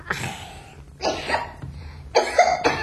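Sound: cough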